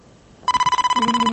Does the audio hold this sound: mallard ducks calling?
no